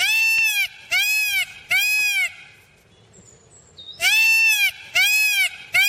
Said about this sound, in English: The cry of that most beautiful of birds, the peacock.